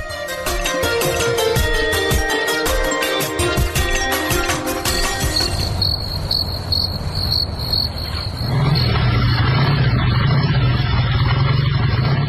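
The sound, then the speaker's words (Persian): Crickets chirp densely across the night desert, and partway through the steady, low engine drone of an approaching motorcycle rises in and keeps humming beneath the insect chorus to the end. “کماندان سب، اونم موتورسیکل آمد، حتما مواد مخدر بار کده.”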